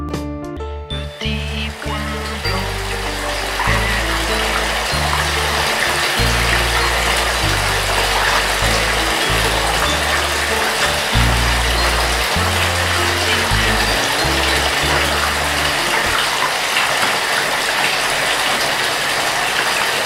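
Water pours steadily into a red ladybug-shaped bathtub with black spots, a continuous rushing hiss that stays loud for the full twenty seconds, with a low bass line of shifting notes underneath and no voices.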